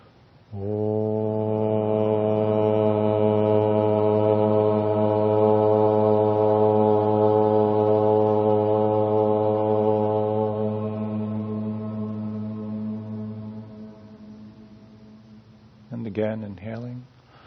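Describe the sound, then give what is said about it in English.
A group of voices chants a single long, low Om to close a meditation, holding one steady, resonant pitch for around fifteen seconds before it fades; a brief murmur of voice follows at the end. “And drawing a breath in, we'll share the sound of Om.”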